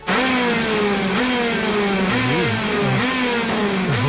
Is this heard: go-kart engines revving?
yes